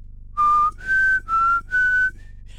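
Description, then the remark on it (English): Someone whistles an eerie sci-fi theme tune in the style of The X-Files alone: four long, steady high notes, the second stepping up in pitch, then dipping and rising again, before a faint trailing-off tone. “That's very X-Files.”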